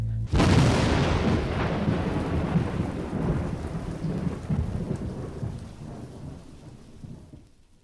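A sudden loud rumble of thunder breaks over steady, heavy rain, the thunder rolling on and slowly fading while the downpour continues close by. No voices.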